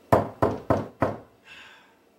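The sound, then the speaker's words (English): Four firm knocks on a door in a quick, steady rhythm, loud, as someone asks to be let in, followed by a brief soft rustle before silence. No one speaks. “Lauren, come on, let us in. Seriously, open up the door.”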